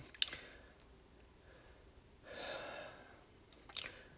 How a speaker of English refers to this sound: I'll take a little sip of tea here.